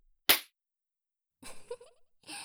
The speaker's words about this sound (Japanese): やっぱり、見下していた女性に平手打ちされるのって、悔しいですし、ショックですよね。こんな風に。